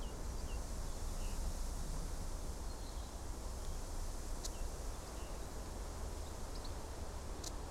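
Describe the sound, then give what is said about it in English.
Wind stirs birch leaves in Blackheath Forest in the Surrey Hills, England, on a rainy summer's day just after a rainstorm. It makes a soft, continuous fluttering rustle, a steady, even hiss with no strong gusts, while a few faint, high bird chirps and brief ticks come through now and then. “In this recording, you'll be able to hear as the wind picks up and flutters the leaves of the birch trees.”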